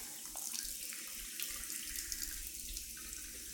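shower water running

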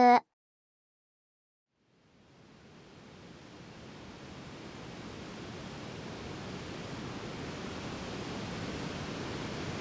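waterfall rushing

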